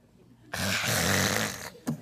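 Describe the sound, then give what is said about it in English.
A voice makes a harsh, raspy guttural hawking sound, like clearing phlegm from the throat, lasting about a second, then a brief second rasp starts just after. “You know, we want to hawk a little phlegm.”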